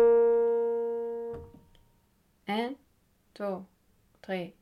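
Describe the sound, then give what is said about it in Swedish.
A steady reference pitch tone for the bass voice part of a choir rings out at the start, rich in harmonics and gradually fading, then stops abruptly, followed by three short bursts of a voice. “Och ni hör den här tonen.”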